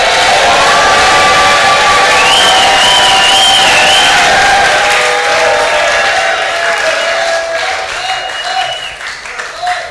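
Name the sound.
audience shouting and clapping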